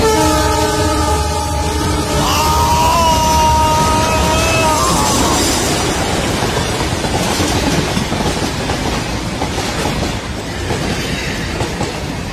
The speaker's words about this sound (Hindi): Train जब बेहद करीब थी, अतुल ने अपनी हार मान ली थी। ट्रेन हॉर्न मारती हुई बिल्कुल ऐसा लगा जैसे अतुल के ऊपर से गुजरती हुई चली गई।